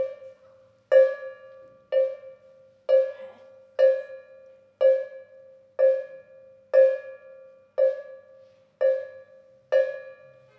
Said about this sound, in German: Die Turmuhr schlägt 12 Mal.